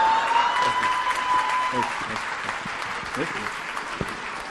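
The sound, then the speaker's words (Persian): Steady audience applause for a participant in a class, a dense wash of clapping from a group that holds for several seconds at moderate loudness, with some faint voices mixed in underneath. “مرسی مرسی، تشویقش کنیم بچه، واقعا کار بزرگی کرده.”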